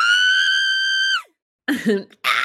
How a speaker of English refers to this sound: Can you just put in a primal scream?